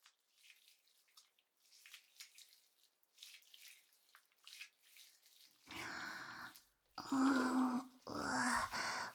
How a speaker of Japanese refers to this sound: 体に垂らしてこすりつける感じで洗うらしいにゃ。 では、気に入っていただけるかも含めて試しにやってみましょうにゃ。このまま上下左右に動きながら泡立てていきましょうにゃ。